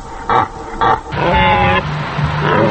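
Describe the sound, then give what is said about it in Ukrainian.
Pig grunting at a zoo in Kharkiv, Ukraine: two short, broad grunts followed by a longer, squealing snort with a harsh tonal edge, then another rough grunt, all loud and with no one speaking. “Так званий свинячий грип? Хоч би що.”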